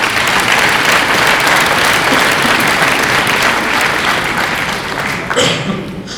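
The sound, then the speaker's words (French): Sustained audience applause for the absent sub-prefect, a dense wash of many hands clapping at steady loudness for about five seconds before thinning out slightly near the end. “Il n'est pas là, mais vous pouvez quand même l'applaudir.”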